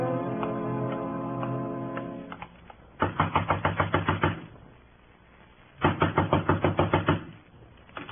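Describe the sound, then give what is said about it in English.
Two bursts of rapid, loud knocking on a door, each about ten quick raps in a steady rhythm, separated by a short pause, after a low sustained musical tone fades away. “Next time, knock soft, mister.”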